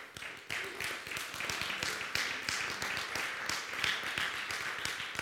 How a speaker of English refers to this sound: Amen? Amen? Well, you can give him a hand clap.